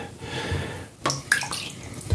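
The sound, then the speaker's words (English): Water sloshes and splashes as someone eases into a tub filled with cold water, with a few irregular surges of movement and no voices. “Hopefully I don't get it too wet. I'm just going to ease in with the understanding that I'm going to keep breathing.”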